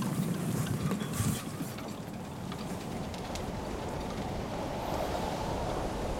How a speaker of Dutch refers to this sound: In de loop van de avond en de nacht begint het steeds harder te waaien. De koopmans welvaren deint op en neer op de golven.